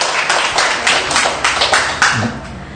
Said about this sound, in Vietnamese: Nghe, nghe thì một tràng pháo tay to lên để tỉnh táo lên thưa anh chị.